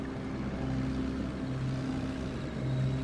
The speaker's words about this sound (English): The wagon comes to a stop, the engines sputter out.